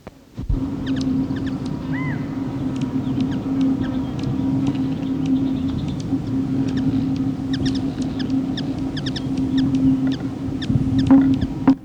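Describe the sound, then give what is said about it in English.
Black-chinned hummingbird (Archilochus alexandri) calls: a scattered series of sharp, high, thin chips, sometimes in quick clusters, over a steady low mechanical drone that runs throughout. “Vocalizations of the black-chinned hummingbird are Archilochus alexandri.”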